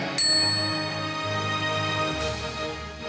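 signal or alarm, bell ding

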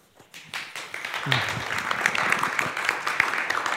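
crowd, audience clapping

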